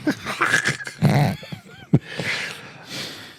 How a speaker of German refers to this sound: Der kleine Hund ist übrigens aufgewacht. Hallo, kleiner Hund.